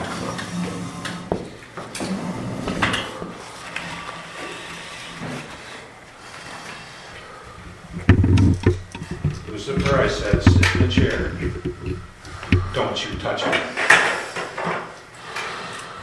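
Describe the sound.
A table is dragged across a hard floor in rough, scraping bursts, heaviest and loudest through the middle, with thumps and background voices murmuring.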